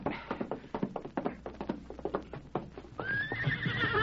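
A quick, steady clatter of horse hooves on hard ground for a few seconds, then a loud, high whinny rings out as the clopping continues underneath.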